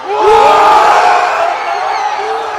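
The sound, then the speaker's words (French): A large crowd of Paris Saint-Germain football fans in Paris roars and chants together in celebration at the final whistle of a 2-1 win, loud, with overlapping shouts and sustained voices filling the whole stretch without a break. “Explosion de joie dans la capitale française au coup de sifflet final.”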